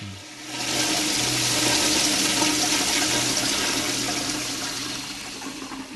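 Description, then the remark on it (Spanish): A toilet flushes at the end of a song, in one loud, steady rush of water that swells within the first second, holds a broad hissing roar, then slowly tapers near the end, with a low hum underneath. “Porque termina con un inodoro que descarga, como decían, todo este...”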